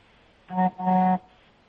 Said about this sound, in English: What's that? They're just honking.